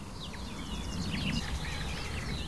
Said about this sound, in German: Und all diese Ablenkungen meiner Wahrnehmung lässt einfach diese Grasmücke vor mir singen und singen und singen. Boah, da waren Imitationen eben drin.